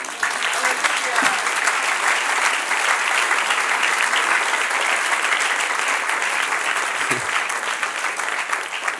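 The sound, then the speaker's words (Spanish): Sustained audience applause, given to celebrate the creation of Adam, a dense, even wash of many hands clapping at steady loudness for about nine seconds, with no voices standing out. “Ay, nace Adán, denle un aplauso.”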